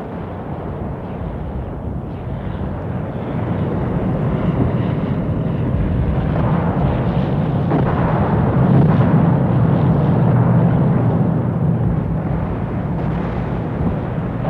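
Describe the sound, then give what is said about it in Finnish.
A dense, continuous roar of constant artillery fire and aerial bombing, with heavy booms blurring into one steady low rumble that swells slightly midway, an unbroken drone of aircraft squadrons from all directions underneath, in smoky, hazy air, with no voices. “Savuinen, autereinen ilma oli täynnä jyrinää. Alituinen tykistö tuli ja lentopommitukset pitivät maankuoren jatkuvan tärinän alaisena.”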